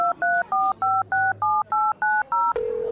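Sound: telephone number being dialed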